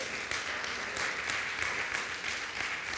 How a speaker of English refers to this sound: Okay, let's go ahead and give him a hand clap of praise this morning.